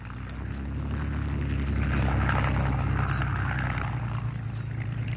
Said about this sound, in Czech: Tento zvuk jsme zachytili nedávno v Anglii, ve chvíli, kdy se dvě skvadrony Spitfireů chystaly ke startu k dennímu náletu na obsazenou Evropu.